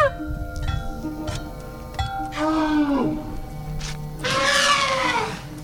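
Loose, clanging percussion and thumps play unevenly while loud, wavering trumpet-like blasts swell in twice, rising and falling over a ringing, metallic background with no one speaking.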